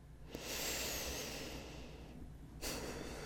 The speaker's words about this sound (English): Number one, breathe. When we're nervous, we're anxious, or worried, we tend to stop breathing. So first, take a deep breath.